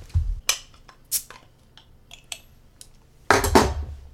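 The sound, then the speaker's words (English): A bottle of sour beer being opened: a few sharp metallic clicks and glassy clinks, then a short, loud burst of noise near the end as the cap comes off. No one speaks. “It doesn't say what kind of sour this is, so I'm not sure what I'm going to be heading into. But let's open it up and see.”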